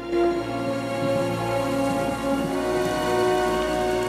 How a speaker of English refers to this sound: London, July 1899. Rain showers down on row upon row of grey rooftops.